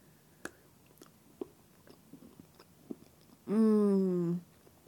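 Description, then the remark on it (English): Crunchy chewing of Ritter Sport Cafe Splitter coffee chocolate with bits of coffee bean inside: sharp, irregular crackles and snaps scattered over a few seconds, followed by a loud, sustained hummed vocal sound. “I don't know if you guys can hear the crunching, but they actually have like little bits of coffee seeds inside the chocolate.”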